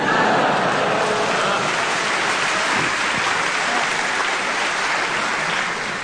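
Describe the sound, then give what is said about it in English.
A crowd claps together in a dense, steady wash that stays loud from start to finish, with no voices rising above the clapping. “And they're all clapping along and proving that we need more bobbies on the beat.”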